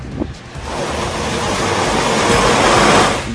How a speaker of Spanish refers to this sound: El agua llegó hasta las calles, causando que varias viviendas también se vean afectadas. Olas de 3 metros se registraron en el balneario de Buenos Aires.